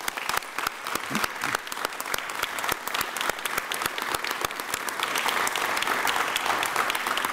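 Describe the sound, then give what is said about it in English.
Sustained applause from an audience for a water system's field staff, dense overlapping claps that swell slightly louder toward the end, with no talking over it. “So they deserve the biggest round of applause right now is those people in the field.”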